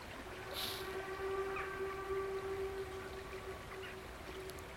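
A steam train in the distance sounds a long, sustained whistle that drifts over a steady outdoor rush of background noise by a river on a grey winter's day. The whistle is faint and far off, with no voices present.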